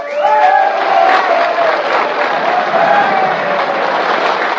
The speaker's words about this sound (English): She touched her lips with her hands, and with tears in their eyes, the miners thundered their applause.